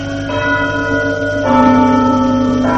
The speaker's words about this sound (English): Right here is the church clock, which strikes every quarter.